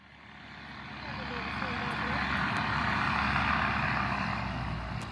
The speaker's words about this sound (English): standing in her front yard watching dump trucks roll down her street. One of those trucks killed her husband.